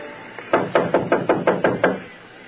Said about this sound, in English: Go on, knock.